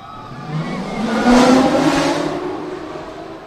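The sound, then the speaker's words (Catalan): A powerful launch whoosh from a vertical accelerator roller coaster in Europe, over 100 metres tall, going from 0 to 180 km/h in 5 seconds, swells and fades over a few seconds, a loud engine-like roar with a rising, revving tone and broad rushing noise, heard alone without any talking. “Té 11 atraccions dedicades al Cavallino Rampante i la més espectacular estrella és la Red Force, l'accelerador vertical de més de 100 metres d'alçada únic a Europa, que accelera de 0 a 180 km per hora en 5 segons.”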